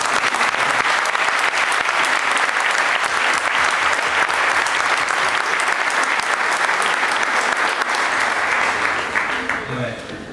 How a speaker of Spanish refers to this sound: Y algunos hermanos chinos que están en Estados Unidos, también nuestros hermanos, un gran aplauso a ellos.